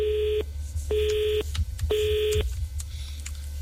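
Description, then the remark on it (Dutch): Three steady electronic keypad tones from a phone being dialed, each about half a second long and evenly spaced, over a low background rumble with a few faint clicks. “Ik dacht dat ik mevrouw Lucia aan de telefoon had.”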